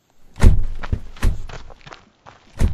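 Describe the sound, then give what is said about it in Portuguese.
Quick, heavy footsteps thud across a wooden floor as someone runs off to a bedroom, several strides in an uneven running rhythm, fairly loud, with no voices. “Vou correndo ao meu cuarto, vale?”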